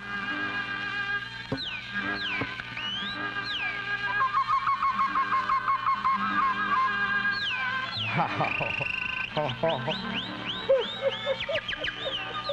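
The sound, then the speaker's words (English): A South African man imitates bird calls, whistling and chirping in quick, sweeping trills that rise and fall, with squawky, duck-like bursts near the end. The sounds are fairly loud throughout. “They're South African, and the one guy talks and whistles like a bird.”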